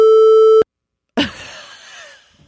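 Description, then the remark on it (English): A loud, steady electronic censor bleep tone holds for about half a second and cuts off abruptly. After a brief silence comes a sharp, bright hit that rings and fades away. “I'll that this, is beeped.”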